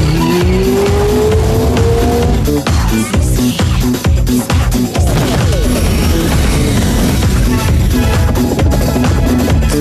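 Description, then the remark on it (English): In a Budget Direct insurance ad featuring Captain Risky, race car tires squeal and skid loudly over roaring engines, a sustained screech early on giving way to a dense, chaotic burst of revving and scraping that continues throughout, with no voices. “It takes a special kind of man to fly a car.”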